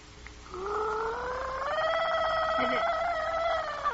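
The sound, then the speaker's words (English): A person takes a sip from a glass of water and gargles it to mimic a nightingale's singing, producing a steady, bubbling warble that rises slightly in pitch and holds for about three seconds, fairly loud with no talking. “You see, I've brought this glass of water with me. Now I'll swallow a bit, and then you just listen.”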